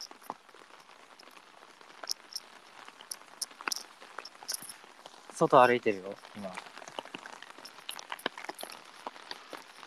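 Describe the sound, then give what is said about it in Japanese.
Dense, steady rain patters and crackles without pause, a constant hiss of droplets, heard while walking outside, as a voice speaks a short phrase briefly in the middle. “やばい、雨の音クソうるさいかも。”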